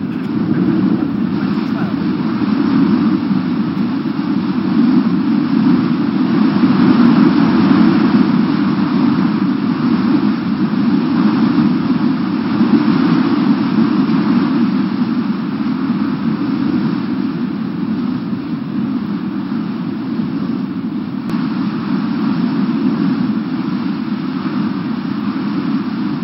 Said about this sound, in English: As I said just now, sometimes there can be storms on that Sea of Galilee. I'll show you a short video now, which will show you a storm.